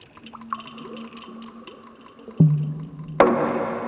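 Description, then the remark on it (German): Scattered drips over a faint steady hum, then a sudden splash and a bright rush of running water that continues loudly to the end. “in einem Wasserfall tosen oder plätschern oder aus der Wasserleitung rauschen”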